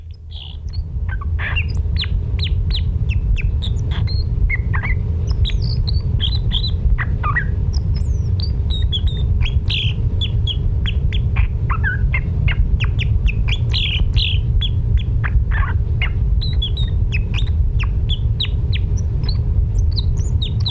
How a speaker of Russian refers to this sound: Это клёст. Очень красивая и удивительная птица. У клёста своеобразный клюв, концы которого искривлены и перекрещиваются. Этим клювом клёст легко вылущивает семена из сосновых и еловых шишек.